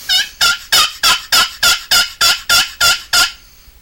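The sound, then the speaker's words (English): A rapid, evenly paced series of about ten loud, sharp turkey clucks made on a one-of-a-kind turkey call, finished in 1984 and built for a 1985 turkey federation convention in North Carolina. Each burst is bright and raspy, ending abruptly with no talking. “Cluck.”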